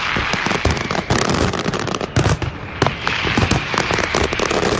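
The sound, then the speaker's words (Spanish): A dense, continuous barrage of fireworks from last year's Castell de l'Olla display, Ricardo Caballero's last, exploding with rapid overlapping cracks and booms forming a loud, crackling roar throughout, with no voices. “Ricardo Caballero anunciaba nada más dispararse el Castell de l'Olla del año pasado, que no sé si lo podemos escuchar.”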